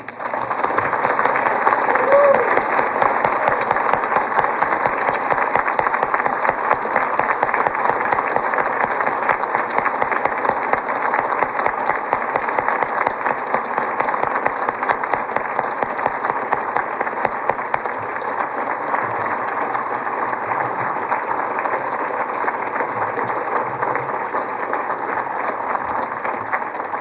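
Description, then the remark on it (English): Sustained applause and a standing ovation from an audience, recognizing a hard worker of PBS on the DTV implementation, a dense, steady patter of many hands clapping that holds loud for the whole stretch, with no voices rising above it. “to also have you join me in a recognition and applause for one of the really hard workers of this DTV implementation”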